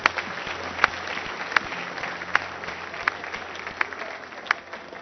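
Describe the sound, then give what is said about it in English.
An audience applauding for the musicians: a dense, steady patter of many hands clapping, with sharp louder claps punching through at a regular beat, roughly every three-quarters of a second. “We want to also clap for our musicians that are doing a great, great job.”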